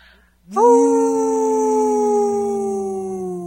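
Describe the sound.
A person imitates a wolf at the Native Roots Radio studio on Halloween 2022, letting out one long, loud howl that holds steady for about three seconds while its pitch slowly sinks.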